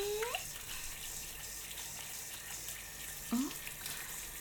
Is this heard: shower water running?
yes